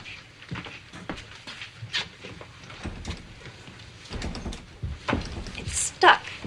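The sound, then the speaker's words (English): The stiff top-left drawer of a metal filing cabinet, used for filing FAA reports, is yanked at repeatedly, giving a series of uneven thumps, rattles and scrapes, then a brief sharp metallic squeal near the end, with faint voices underneath. “No, it's not stuck. Just needs a little bit of muscle.”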